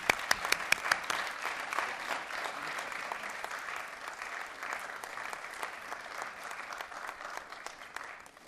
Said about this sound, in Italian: ma se volete un applauso al lavoro